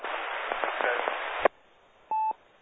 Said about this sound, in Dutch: Er was nog een zachte stem in de op achtergrond, in de ruis.